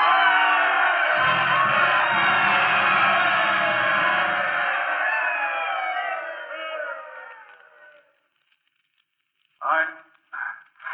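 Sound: stadium crowd cheering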